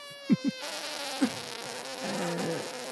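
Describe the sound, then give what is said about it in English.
High-pitched air leaking out of a rigid airship punctured with an ice knife: a steady, buzzy, screaming whine rich in overtones, with a few short low blurts near the start, lasting about three seconds. “air does start screaming out, and it does sound like a super high-pitched fart.”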